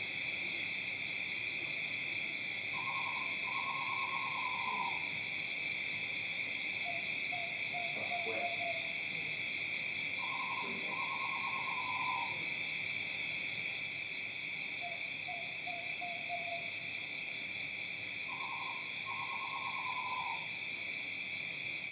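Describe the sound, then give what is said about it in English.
Great horned owl and western screech owl calls trade off at a steady pace: three hooting phrases alternate with quicker bouncing trills, over a constant drone of night insects. “Great horned owls you get around here. Various people have told me you've heard them. They're the like stereotypical owl sound.”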